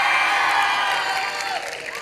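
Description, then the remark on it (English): An audience screams and cheers loudly for bands from Fort Collins and El Paso, a dense wash of high-pitched shouts and whoops that holds steady for about two seconds before easing slightly. “You guys should scream louder for these bands, by the way.”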